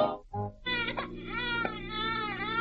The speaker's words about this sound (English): A fine mother you are. Can't even stop him from crying.